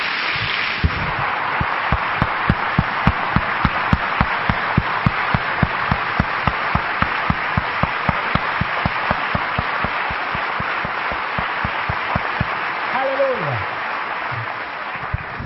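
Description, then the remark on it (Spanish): A standing audience applauds for Jesus Christ in a steady, rhythmic unison clap, dozens of sharp beats over a dense wash of scattered clapping, sustained and loud before tapering off near the end as a voice briefly rises. “Vamos a dar un aplauso a Jesucristo fuerte por esta mesa que el Señor nos sirve en esta noche.”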